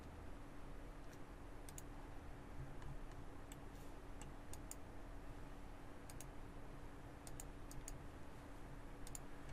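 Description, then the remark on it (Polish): Quiet computer keyboard key clicks as Ctrl+S is pressed to save, sharp and dry, arriving in small clusters of two or three taps with pauses between, over a steady low hum and background hiss. Nobody speaks. “I klikam Ctrl S, co jest bardzo dobrym nawykiem, przypominam.”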